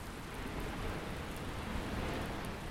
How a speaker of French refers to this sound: L'orage éclatait dans le ciel.